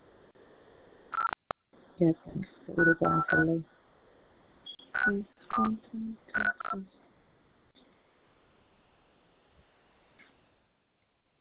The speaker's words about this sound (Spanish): Llama este número, mira, en su teléfono.